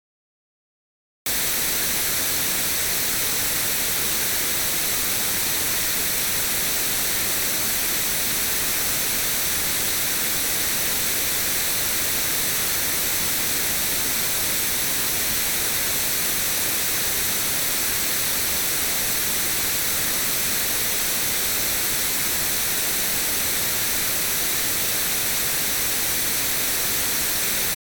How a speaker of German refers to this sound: Und wir hören jetzt noch kurz hinein, reines weißes Rauschen, ein sehr scharfer Begriff, wie Andrea Sodomka meint.